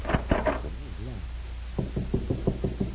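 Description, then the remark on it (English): Knocking on a wooden door: three firm raps, a short pause with a faint murmur, then a steady run of about eight quicker knocks, fairly loud. “Well, let us find out. I'll try this door.”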